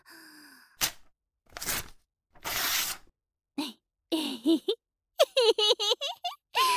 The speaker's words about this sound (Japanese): よし、じゃあ包装紙を解いてと。